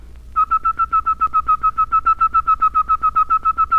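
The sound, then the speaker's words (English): The letter T whistled as it is pronounced, repeated faster: a steady whistled pitch broken into rapid, evenly spaced tongued notes, about seven per second, continuing without a break for several seconds; clear, with no talking. “Say T and then whistle it. Put the whistle where the voice was.”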